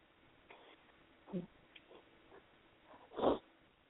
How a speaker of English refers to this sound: I have a very small dog whining at me right now.